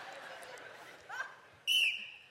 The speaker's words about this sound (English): Cover your ears. This whistle's kind of loud, okay?